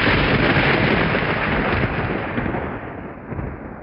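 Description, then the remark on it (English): A loud lightning strike, a single bolt racing down from the sky, with crashing thunder: a dense, roaring rumble that fills the space and slowly tapers over several seconds, with no voices. “Many of the cult ponies jumped a foot in the air when a single bolt of lightning raced down from the sky and struck the very center of the spell, sundering the metal podium”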